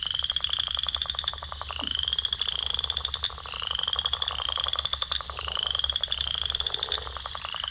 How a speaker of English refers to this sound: Okay, here's the western chorus frog.